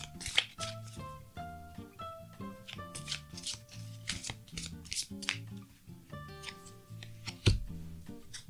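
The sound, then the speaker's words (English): A deck of affirmation cards is shuffled, with repeated crisp riffling and flicking bursts over several seconds, while soft tonal music plays quietly underneath. “Okay, so let's shuffle the cards and just see what the universe wants us to affirm for ourselves today.”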